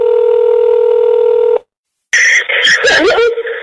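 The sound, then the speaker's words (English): Telephone dialing tones of a phone call home: a loud, steady tone for over a second, a brief silence, then a burst of warbling, crackly line tones, with no voices. “On a harrowing phone call home, Amanda begged her mum to pay the ransom.”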